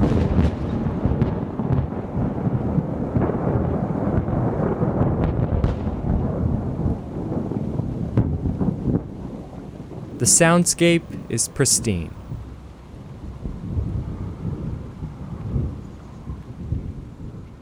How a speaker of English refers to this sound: Or maybe a thunderstorm.